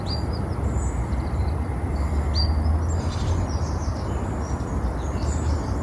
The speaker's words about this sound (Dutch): En de zon zat zo door de bladeren van de treurwilg op dat water. Het waren vogeltjes aan het zingen. Het was het totaalplaatje. Ik heb ook het geluid opgenomen, eigenlijk.